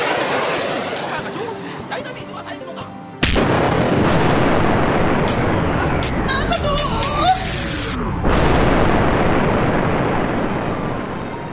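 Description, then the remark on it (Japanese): A robot's rocket punch, the Transonic Punch, blasts off with a sudden loud burst and a steady roaring rush, wavering whooshes sweeping through it, then a second explosive impact crashes in and rumbles on as it destroys its target in one hit. “夢にまで見たロケットパンチ、しかも一撃。”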